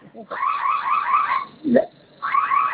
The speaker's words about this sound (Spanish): Silenciar la alarma. No se ha silenciado la alarma. Sí, no me deja.